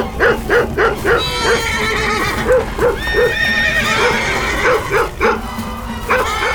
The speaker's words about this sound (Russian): Лошади услышали, испугались и разбежались во все стороны.